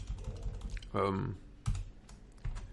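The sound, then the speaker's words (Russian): Sharp, irregular computer keyboard clicks tap out in short bursts as a search is typed on YouTube, with a brief murmured voice sounding partway through and a low hum running underneath. “Сейчас я попробую его поискать на Ютубе.”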